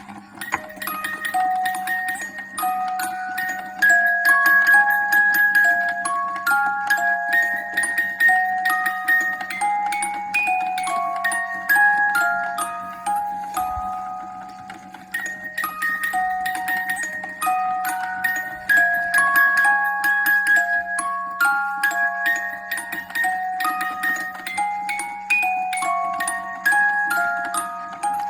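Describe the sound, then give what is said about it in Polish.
A music box plays a tinkling, plucked melody of bright metallic notes. Throughout, there is a steady train of soft mechanical knocks and ticks from its one moving part: a sailor figure holding a bottle, at the centre of a scene behind a gold-framed front pane, that rocks from side to side. “Słychać takie stuki, gdyż scenka ma jeden ruchomy element, mianowicie ten centralnie położony marynarz z butelką w ręku kałoży się na boki.”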